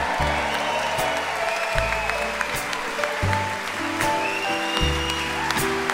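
Steady audience applause for the band, a dense wash of clapping that stays loud throughout, while the band keeps playing underneath with a stepping bass line.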